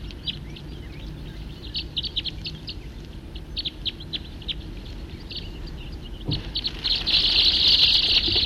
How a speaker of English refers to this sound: Recording the same birds.